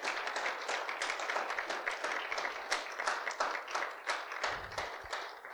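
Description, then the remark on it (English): A crowd of church youth stands and claps steadily for several seconds, a dense, even patter of many hands with no voices standing out, holding at a fairly loud level throughout. “I want the youth right now to stand up and give a big clap.”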